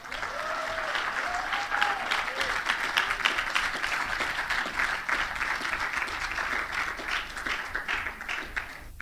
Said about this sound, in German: Kommt doch mal auf die Bühne. Einen Applaus bitte.